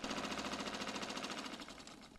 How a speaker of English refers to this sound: Sometime later, night has fallen, and while Mrs. White works on a sewing machine, Carrie comes out of the cupboard. Hearing the door, Mrs. White pauses her machine.